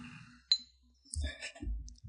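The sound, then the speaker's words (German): Glasses clink together in a toast, with a sharp bright ring followed by a cluster of lighter clinks and soft knocks, fairly quiet. “Sollen wir mal anstoßen?”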